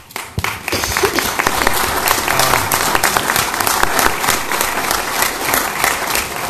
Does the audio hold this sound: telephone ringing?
no